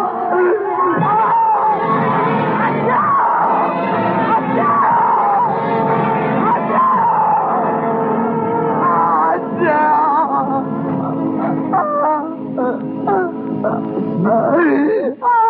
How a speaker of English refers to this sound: Oh, I could see her face. Surprised and contorted with pain. Oh, she turned and looked towards the bed a second, the bucket flaming in her hand. But then she went screaming out the door and towards the sea.